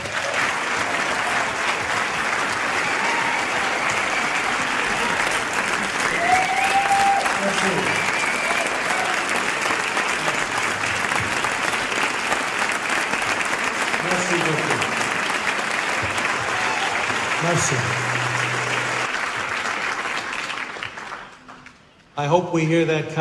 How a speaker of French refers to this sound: J'espère que vous applaudirez comme ça à la fin du film.